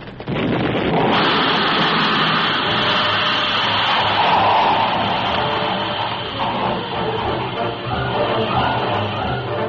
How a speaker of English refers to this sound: As the Turtleback disintegrated in a terrific burst of steam and scalding water